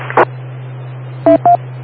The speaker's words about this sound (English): Please give me your call letters and name right now after the beeps.